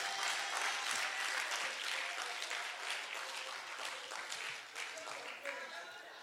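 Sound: audience clapping hands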